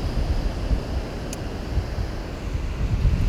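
Steady outdoor roar of ocean surf on a beach with gusting wind buffeting the microphone, a continuous low rumble that swells slightly toward the end, with no voices present.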